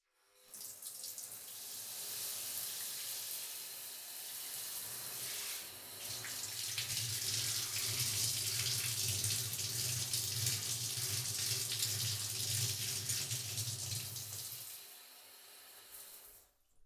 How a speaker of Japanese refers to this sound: じゃあそろそろシャワーで体流すから。